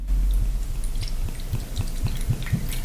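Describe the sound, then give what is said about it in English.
Sloe liquid glugs out as 30 ml of it is poured, a steady run of low, hollow gulps about four per second, with faint wet clicks and splashes above them and no voices. “Even though it's early in the morning, the sound of that glugging sounds really inviting.”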